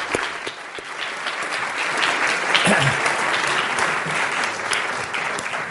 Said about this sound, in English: Keith, will you take the stage and give him a round of applause as he comes there?